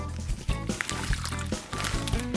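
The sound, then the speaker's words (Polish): Water is poured steadily into a pot of scraped new potatoes cut into small cubes, a continuous splashing and gurgling that lasts a couple of seconds with a few brief knocks and sloshes. “Pokrojone ziemniaki przerzucamy do garnka i później zalejemy je wodą.”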